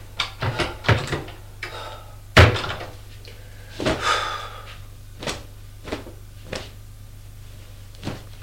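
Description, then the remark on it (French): Wooden cupboard doors of a wardrobe in a bedroom bang and clatter repeatedly as they are opened, a flurry of sharp knocks and thumps spread across several seconds, with a low steady hum underneath and no talking. “Ouvrir les portes de son placard.”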